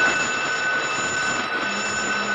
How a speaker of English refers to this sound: She's going, sir. Shall I sound the alarm? Yes.